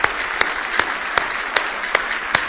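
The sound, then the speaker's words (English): An audience claps hands in praise of God at a Sunday morning church service, a dense wash of applause punctuated by sharp, steady beats as many clap together in rhythm, loud with no voices. “Give Him a good hand clap of praise if you love Him this morning.”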